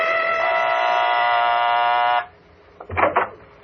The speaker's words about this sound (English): I got her home address out of the book and went out there. She lived in a nice enough house out on the east side of town. I rang the doorbell.